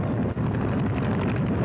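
A steady, rumbling engine roar fills the whole clip, loud and low-pitched with a rough, buzzing texture and no break: an airplane motor running at high power during an Army training flight.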